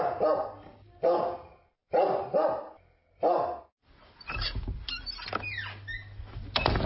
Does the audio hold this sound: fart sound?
no